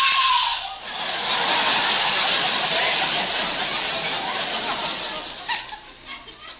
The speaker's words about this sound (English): Suddenly, I hear a woman scream.